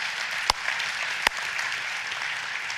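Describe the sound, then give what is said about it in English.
A church audience claps together in a steady, dense wash of applause at moderate volume, with a couple of sharper, louder claps popping out near the start; no one speaks. The applause celebrates the one-year anniversary of Living Vine and the two-year anniversary of Redemption Life church plants. “And I am just incredibly, yeah, we can clap for that.”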